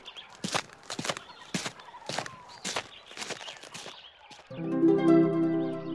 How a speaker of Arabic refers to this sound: ليلى تذهب إلى بيت جدتها. ليلى تمشي في الغابة.